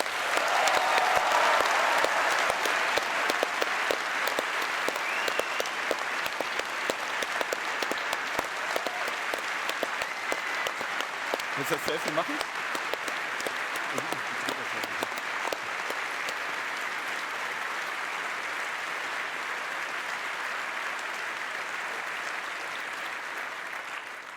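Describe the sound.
Sustained applause from a large crowd for the people who agreed to join in and host swap parties, dense and steady for over twenty seconds, fading slightly toward the end, with a brief spoken question cutting through midway.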